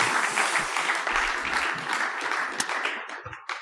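A crowd applauds steadily, a dense wash of many hands clapping at an even loudness for a few seconds, with a couple of sharper claps standing out near the end.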